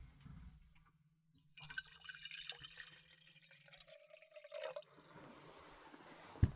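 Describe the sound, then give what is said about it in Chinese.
Water streams steadily into a cup for about three seconds, the gurgling pitch climbing as it fills, then stops, with a faint low hum underneath and no talking. “喝点什么？不过也没什么，只有茶和白开水。”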